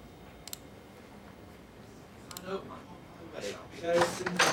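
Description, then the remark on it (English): Two sharp, isolated clicks spaced a couple of seconds apart, then louder bursts of papery rustling and shuffling near the end, with a voice briefly audible underneath, as someone at a desk in a consultant's office rifles through paper files and searches files on a computer. “She rifles through some paper files, then searches through the files on Jack's computer”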